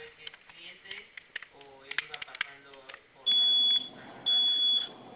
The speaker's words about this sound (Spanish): De aquí, de igual manera, caballero, en su teclado, me confirma sus dos botones de fuego, por favor, los vamos a presionar los dos al mismo tiempo por 5 segundos. Va a sonar su clave, va a sonar su alarma e ingrese su clave.